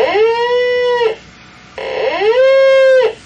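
A probe-based point-testing device's adjustable sick cow sound: two loud, drawn-out moaning calls, each about a second long, rising briefly and then holding a steady, reedy pitch, separated by a short pause.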